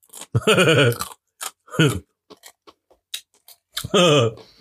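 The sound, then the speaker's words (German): Small crunchy clicks of someone biting their fingernails, several irregular snaps spaced apart, with short humming or murmured voice sounds at the start, middle and end. “Boah, kannst du nicht immer deine Fingernägel kauen?”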